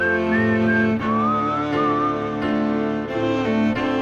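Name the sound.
whistling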